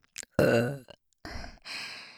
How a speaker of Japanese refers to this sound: チンポをしこってしこってしこりまくって、両耳から聞こえる下品なゲップと一緒に射精したいですよね。